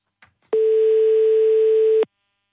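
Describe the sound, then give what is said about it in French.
A single steady telephone ringing tone heard over the line during a France Bleu Alsace radio call to a listener in Rohr, one continuous buzzy beep lasting about a second and a half after a faint click, with no one speaking. “le numéro de téléphone du jour, je vous prie. Ça sonne.”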